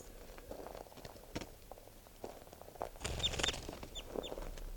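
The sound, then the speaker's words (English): A captive bird, bird 643, being made to fly so it will call, gives a few short, high chirping calls amid rustling, fluttering and handling noises, with a burst of wing flapping and scuffling in the middle. “I'm gonna make it fly a little bit and see if I can get calls out of it.”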